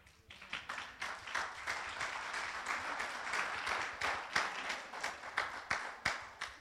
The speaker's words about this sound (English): There's a couple bosses who started clapping.